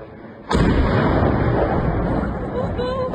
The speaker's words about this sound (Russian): Еще взрыв.